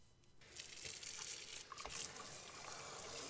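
Steady running water pours and splashes for a few seconds, a continuous hiss with small irregular spatters, as conditioner is rinsed out of a person's hair. No one speaks.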